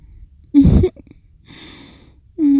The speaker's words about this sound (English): You summoned the yawns.